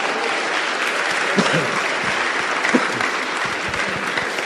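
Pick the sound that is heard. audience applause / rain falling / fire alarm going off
audience applause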